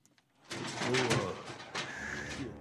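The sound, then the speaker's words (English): A bald eagle, flown by a falconer at an event at the White House, calls with harsh, chirping cries over a dense, noisy background that starts abruptly and stays fairly loud for about two seconds, with a brighter cry near the end. “Here's the clip of the Bald Eagle.”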